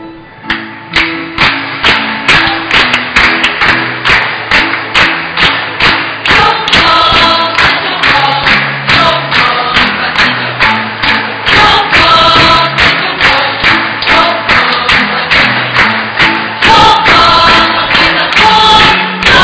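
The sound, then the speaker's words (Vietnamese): Steady, rhythmic clapping from many hands keeps a regular beat throughout, loud and even, while a parish audience sings a melody along with it, celebrating the patron saint day of the priest of Mông Triệu parish district. “Là tràng vỗ tay trong bài hát của cộng đoàn chúng ta vừa mừng cha giáo khu Mông Triệu hôm nay nhân ngày bổn mạng”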